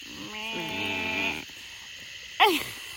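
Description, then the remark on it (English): A frog gives a long, tonal croak with a steady buzzing pitch, then falls quiet before a short, sharp chirping call bursts out near the end, over faint outdoor ambience of calm, misty, slow water in the morning. “There's like one frog that's cracking me up right now with this tone.”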